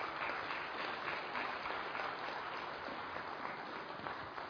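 A crowd claps in a dense, steady round of applause for the seniors backstage who have supported the organisers over many years. It holds at an even, fairly loud level for several seconds, with no voices standing out.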